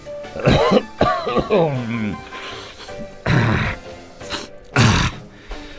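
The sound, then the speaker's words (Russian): A man's voice imitates a doctor's throaty grunt, followed by two breathy, noisy bursts like hesitant nose blowing, fairly loud, with short pauses between them and no words spoken. “Поглядев на подарок, доктор медленно почесал за ухом, крякнул и нерешительно высморкался.”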